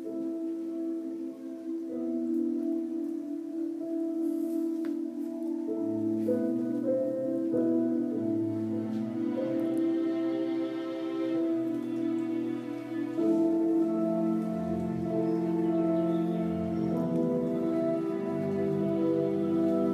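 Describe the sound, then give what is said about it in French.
Sustained film-score music played with plucked, distorted strings, layered droning chords that shift every few seconds, holding a steady, full loudness throughout with no voices. “Et maintenant, nous allons faire écouter la bande originale d'Interstellar.”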